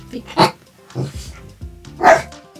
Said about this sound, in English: Additional music by …, with barking by Carrot Riddle Rial. Okay, Carrot.